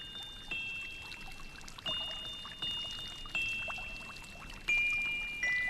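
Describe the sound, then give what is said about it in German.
A fountain splashes and burbles steadily, with bright tinkling tones drifting over the running water and small surges every second or so. No one speaks. “Es war einmal im Märchenland, gleich hinter dem pumperdicken Bullerberg bei den drei alten Kastanienbäumen, ein Brunnen. Und er sang und plätscherte und sprühte seine regenbogenfarbenen Tropfen den Wolken entgegen.”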